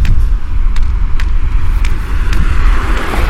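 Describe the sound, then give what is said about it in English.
Steady street traffic rumbles at a street corner, a continuous low roar of passing vehicles with faint periodic clicks or ticks, heard outdoors with no one speaking. “You can hear a little bit of traffic today.”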